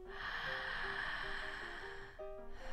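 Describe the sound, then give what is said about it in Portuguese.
A single long, deep breath drawn slowly and audibly as a demonstration of slow, deep circular breathing, a steady airy rush lasting a couple of seconds before tapering off, with faint tones in the background. “Essa respiração, ela é assim, ó. Ela é lenta e profunda.”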